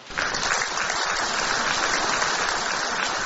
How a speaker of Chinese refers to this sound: 让我们再次以最热烈的掌声感恩卢军宏台长为我们带来的精彩开示。